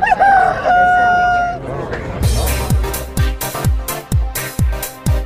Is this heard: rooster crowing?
yes